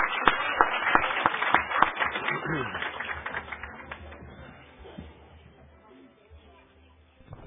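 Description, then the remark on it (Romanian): A church audience applauds the children as they receive gift bags, a dense patter of many hands clapping that starts strong and gradually thins and fades out over several seconds. “Să le dăm aplauze cu toții.”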